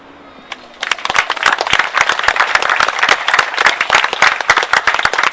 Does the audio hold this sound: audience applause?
yes